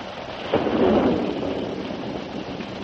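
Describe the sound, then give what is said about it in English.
Steady rain hisses throughout while a deep roll of thunder breaks in after a moment, swells briefly, and then rumbles off beneath the downpour. No voices are heard. “A short time later, the storm stopped.”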